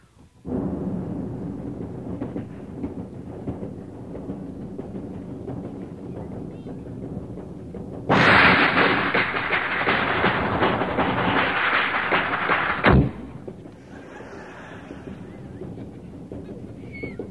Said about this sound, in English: Let's pass between the cars on the train from one car to the other car while the train's moving.